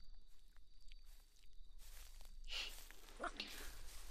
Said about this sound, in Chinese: 脚步声这么大，想不发现都难。